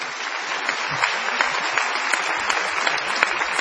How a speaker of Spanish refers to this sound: Está presente la gente de la ONG CEFIL, que trabaja por la gente en situación de vulnerabilidad social. Vamos a aplaudir.